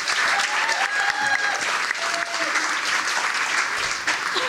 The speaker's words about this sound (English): Well, okay, they're going to be giving us suggestions, and we'll also be getting ones from our audience here at the Black Box Theatre as part of Northern Ireland Science Festival. Give yourselves a round of applause and a warm welcome.